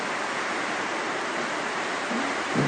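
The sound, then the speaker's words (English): Steady, much-needed rain falls in Singha Toka, a constant, dense hiss that fills the whole scene without pause, loud, with a faint low murmur rising briefly near the end. “The rain is falling in Singha Toka.”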